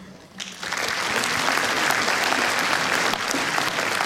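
A crowd bursts into sustained applause, dense clapping swelling quickly after a brief quiet start and holding steady and loud throughout, with no voices standing out.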